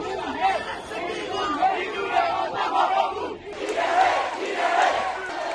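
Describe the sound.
A large crowd of protesters shouts and chants in the streets of Myanmar (Burma) after an army coup, calling for democracy and against military dictatorship; many voices rise together in rhythmic, loud bursts that swell and get louder midway through.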